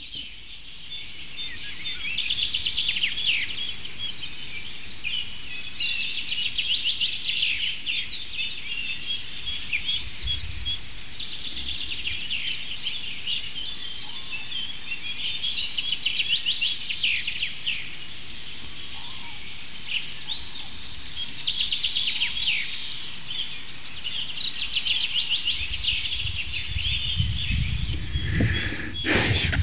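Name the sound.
chaffinch singing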